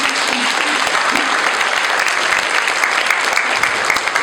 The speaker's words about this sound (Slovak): Ja som veľmi vďačná, že tento festival v kúpeľoch Nimnica môžem robiť, lebo určite mi potvrdíte a veľkým potleskom, že je tu krásne.